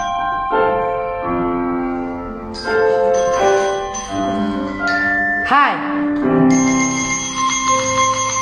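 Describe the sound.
A 7th-grade class plays synthetic, bell-like tones on smartphone instrument apps in a music lesson, fingers moving on screens following colours on the staff, with overlapping sustained notes and chords, a quick pitch swoop midway, loud, with a brief shout from a voice.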